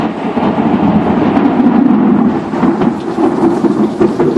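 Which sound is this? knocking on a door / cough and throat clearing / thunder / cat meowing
thunder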